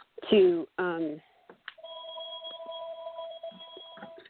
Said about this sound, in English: See if I can turn that dinger off. Yeah, it's a real old-fashioned sounding ringer. Yeah. Okay. The old landline, right? Right.